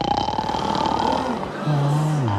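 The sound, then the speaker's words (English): A man snores loudly in bed in one long, rasping, guttural breath that ends in a steady low buzzing drone. “What he needs is Air Snore Throat Spray, formulated with a pleasant-tasting blend of all-natural oils that help stop snoring for up to 8 hours.”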